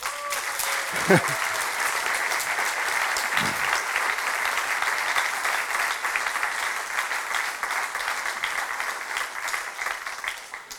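An audience bursts into sustained applause, a dense, steady patter of many hands clapping that holds at a fairly even loudness for about ten seconds before easing slightly at the end.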